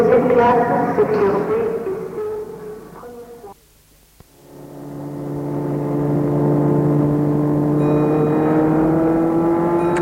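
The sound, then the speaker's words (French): A car engine rumbles, drops to near silence with a brief click, then the engine rises again and holds a steady, slowly climbing drone as the car drives off from a train station and gathers speed. “Une fois sorti de la gare, Philippe l'emmène chez lui en voiture.”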